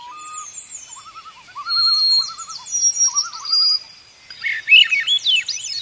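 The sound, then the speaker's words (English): Birdsong fills the air in a spruce and poplar forest of Alaska and Canada: a long, clear whistled song from a white-throated sparrow alongside rising, fluty spiraling phrases from a Swainson's thrush, with other birds chirping faintly in the background. No one speaks. “Ah, there's the fluty harmonics of the Swainson's thrush. The long, clear whistles of the white-throated sparrow.”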